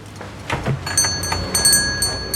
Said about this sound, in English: takes out his alarm clock, and sets it.